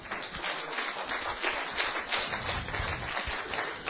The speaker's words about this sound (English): Praise God. I wonder how long he just stood there. Give him a cheer.